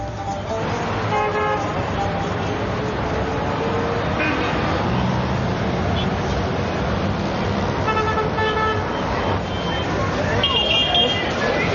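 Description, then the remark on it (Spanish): Dense city traffic in Cairo, a megacity of 20 million people, roars steadily, with engines rumbling and repeated car horns honking, blaring in short bursts and longer toots over a constant din. Faint voices mingle in the background. “Hoy, el Cairo es una megaciudad caótica de 20 millones de habitantes, casi ahogada bajo el peso del tráfico.”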